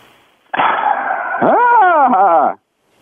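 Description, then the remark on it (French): A person on a phone call imitates a horse's whinny when an automated identity check prompts them to: one loud, two-second vocal call, a strained buzzy tone breaking into a quavering, wavering pitch that rises and falls before cutting off, with no other sounds. “Imitez le son d'un cheval.”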